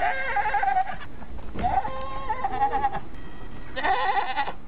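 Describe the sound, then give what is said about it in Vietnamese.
A female goat in the back of a vehicle bleats several times in a row, loud, each call a wavering, nasal cry with short pauses between, over a faint background hum. “Hiện lộ bên trong thật là một con dê cái đang chỉ đuôi về phía chúng tôi.”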